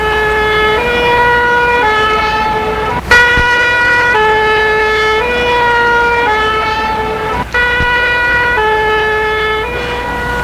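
A loud two-tone fire engine siren, firefighters called out after a man was hit by a car, alternates steadily between a high and a low note for the whole stretch, with a couple of brief knocks and no voices.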